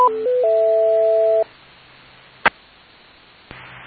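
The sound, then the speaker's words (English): A radio repeater times out: a quick run of electronic beeps stepping between pitches, ending in a longer steady tone, then quiet, a sharp click, and a low hiss of static. No one speaks. “Repeater, timeout, cancel. Sorry about that.”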